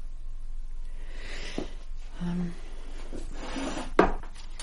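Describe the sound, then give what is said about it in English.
Desk drawers full of stationery are opened and rummaged through in a study, with soft scraping, the clink and shuffle of small objects, and a sharp knock near the end. “The desk drawers are just full of stationery.”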